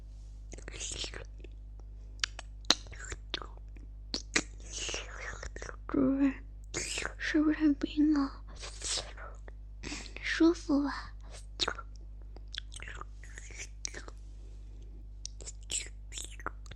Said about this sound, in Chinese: 首先，我会把一块冰块含在嘴里。